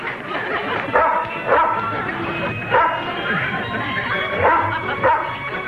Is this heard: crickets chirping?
no